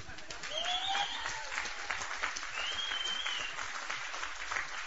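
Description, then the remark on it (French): Steady audience applause after a speaker's testimony of being freed from drugs by Jesus: a dense wash of many hands clapping at once, sustained and fairly loud throughout, with a few faint whistles or cheers rising above the clapping. “C'est pas moi que vous applaudissez.”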